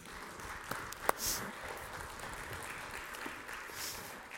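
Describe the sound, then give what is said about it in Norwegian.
An audience claps steadily for a few seconds for the people who helped illustrate the story, a dense wash of many hands with a couple of sharper claps standing out early on, with no voices over it. “Men uansett, dere gjorde en glimrende jobb igjennom en skikkelig applaus her.”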